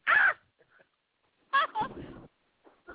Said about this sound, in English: Ooh, a dog's on the show. Hey, I love dogs.